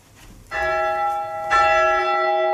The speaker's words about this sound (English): Back in the ringing chamber, we first chime the bells to get a clean recording of them while they are hanging downwards.